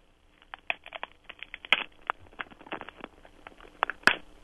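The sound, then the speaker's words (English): Three celery stalks are twisted to imitate ice cracking as a sound effect for a show: a run of crisp, irregular crackles and pops, broken by two sharper, louder snaps, with no voices. “It's three stalks of celery being twisted.”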